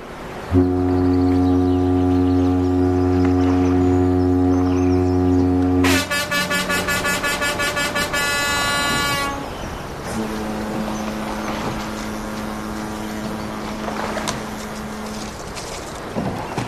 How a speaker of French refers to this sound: Au son des cornes de brume des bateaux qui me souhaitent bon voyage, je me dégage du quai.